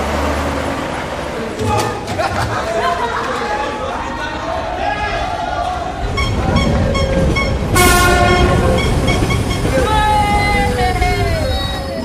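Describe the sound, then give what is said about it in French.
An RER commuter train rumbles through the station at Le Raincy, with a steady mechanical roar, tonal squeals and a brief high whine near the end, while indistinct voices and crowd chatter mingle underneath. “Il saute par-dessus les portillons pour prendre le RER.”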